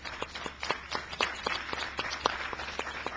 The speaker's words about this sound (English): Well, I'd like to thank our panel and the rich conversation discussion we've had. Give them all a round of applause, please.